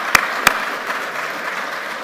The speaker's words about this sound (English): So I think what the older people could do, we could give all the boys and girls that took part a wee round of applause. Come on, support them. That's good.